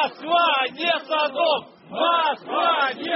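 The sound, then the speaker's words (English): A crowd of anti-gay protesters on the street outside the Russian parliament in Moscow chants "Moscow is not Sodom" in unison, in loud rhythmic bursts of shouted syllables rising and falling in repeated phrases with brief pauses between them. “Anti-gay protesters chanted, "Moscow is not Sodom."”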